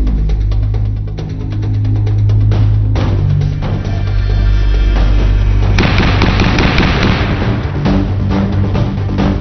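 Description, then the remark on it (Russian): A DShK heavy machine gun fires in loud, sustained rapid bursts, a dense booming rattle with deep low-end thump that continues for the whole stretch, no voices present. “Такой звук издает пулемет ДШК при выстреле.”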